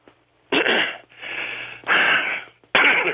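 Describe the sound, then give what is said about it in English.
Labored, wheezy breathing of a person who is upset: four heavy, raspy breaths in and out, loud, each lasting about half a second to a second with short pauses between, no talking. “I have a hard time breathing when I get.”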